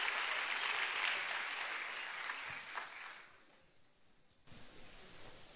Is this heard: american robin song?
no